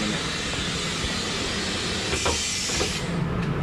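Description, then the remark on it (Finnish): A train pulls away from a station: a steady, loud rumble with hissing steam and a few metallic clanks and knocks, continuous throughout. “Älä anna mun pidätellä, nosta vaan kytkintä, jos aikataulut sanoo niin.”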